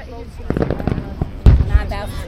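Two sharp, booming firework bursts land close together near the end, with people chattering underneath throughout.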